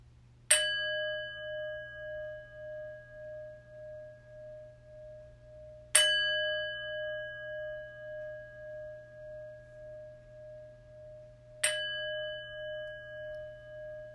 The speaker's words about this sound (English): The chimes will call us to a prayerful meditation.